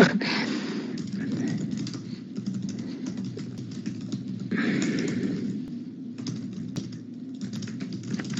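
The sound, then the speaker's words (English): Steady, rapid typing on a computer keyboard as a message is typed to a participant in an online meeting, a continuous patter of small clicks with brief pauses between bursts, and no talking. “I'm just typing in to Catherine if she wants to log out and log in again”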